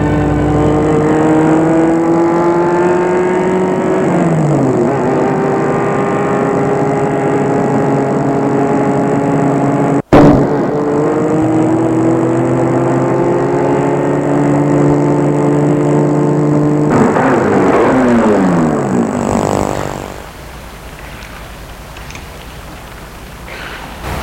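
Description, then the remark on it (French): A car engine hums steadily, its pitch rising and falling as it drives and shifts, then winds down and cuts out near the end as the car pulls up and stops in front of an apartment building to pick up passengers. “viennent chercher en voiture”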